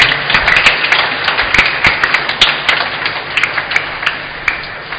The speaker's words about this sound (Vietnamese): Xin cộng đoàn chúc mừng anh em một tràng vỗ tay và chân thành cảm ơn.